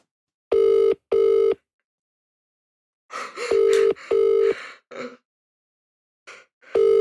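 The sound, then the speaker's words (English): A telephone ringing tone, heard after dialing a number that goes unanswered, repeats in loud, steady-pitched double bursts, with pauses between each pair, while brief rustling, breathy noises rise up around the later rings. “Oh, that's a lot of rings.”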